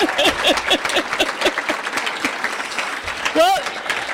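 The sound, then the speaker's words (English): A crowd in Madison applauds the legendary box carriers, a steady, dense, crackling wash of claps with scattered voices mixed in, and a short whistle rises near the end. “Give those folks a round of applause.”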